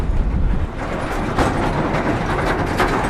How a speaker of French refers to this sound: On a un grand camion que l'on va croiser.